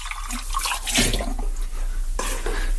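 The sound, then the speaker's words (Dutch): Water pours steadily into a glass for a few seconds, a continuous splashing trickle with a brief surge partway through and no talking. “Ik neem even een beetje water.”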